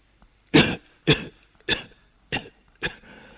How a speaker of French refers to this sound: Il a entendu tousser, se tourne et voit assis sur une chaise sa mère qui lit.